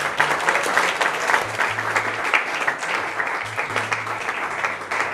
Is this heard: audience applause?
yes